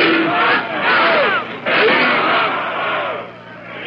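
A large crowd in London's Trafalgar Square chants "Eden must go", loud massed voices rising in repeated rhythmic phrases with a brief break midway, over a steady roar of background noise.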